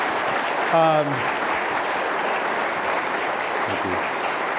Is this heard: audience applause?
yes